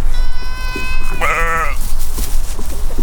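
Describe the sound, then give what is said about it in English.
Goats and hundreds of sheep grazing on invasive plants and dry grass bleat in overlapping calls, one long wavering bleat standing out over a steady outdoor rumble, with fainter animal sounds around it. “Goats are out here too, along with hundreds of sheep.”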